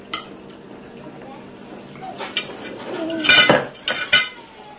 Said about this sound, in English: Please don't bang your fork on your plate. Please don't.